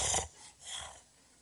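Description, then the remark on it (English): A person imitates heavy mouth breathing: two breathy, rasping breaths, a loud one followed by a softer, longer one, with no talking. “And all you can hear is this mouth breathing.”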